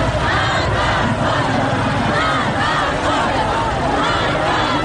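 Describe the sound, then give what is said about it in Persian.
A large crowd of Afghan migrants protesting in the streets of Tehran shouts continuously in a dense, loud roar of many voices, crying for justice, with rhythmic swells suggesting chanted protest cries rising and falling throughout. “خاصه وقتی در خیابان‌های تهران فریاد دادخواهی مهاجران افغان شنیده می‌شود.”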